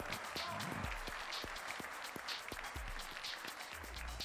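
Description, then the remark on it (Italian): A crowd applauds steadily to welcome Alberto Forchielli as he is seated for an interview with Marco Montemagno, dense overlapping claps forming a continuous wash of sound at even loudness for a few seconds, with faint low murmurs underneath. “Alberto Forchielli, eccolo qua, facciamo un applauso e benvenuto.”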